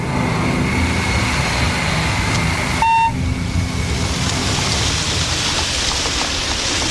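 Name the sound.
rain falling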